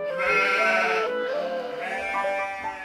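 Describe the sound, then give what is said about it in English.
Several goats bleat loudly, their wavering cries overlapping in a near-continuous chorus, with a brief dip before another bleat rises. No one speaks. “Every morning, Peter came to the village to get the goats.”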